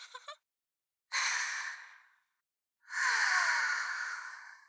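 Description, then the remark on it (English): Soft breathing with no talking: a quick short breath, then two longer, airy exhales separated by brief silences, each fading gently away. “I know you like hearing my little breathing noises.”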